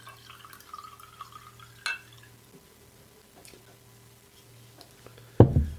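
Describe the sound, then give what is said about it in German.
Wine is poured into a glass in a short gurgling stream, followed by a light clink and then a sharp knock near the end, with no talking. “Wenn du zügig gießt und zügig absetzt, tropft sie nicht.”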